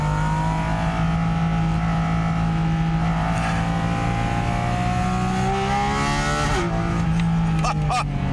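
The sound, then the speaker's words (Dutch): A sports car's 4-litre engine, known from the 911 GT3, drones loudly and steadily from inside the cabin, its pitch climbing and dipping with throttle as the driver shifts up, overlaid by a breathy intake roar from a large carbon airbox behind the driver; the sport exhaust is not switched on. No one speaks. “En dat komt achter mij grote airbox carbon. Daar wordt wat lucht aangezogen.”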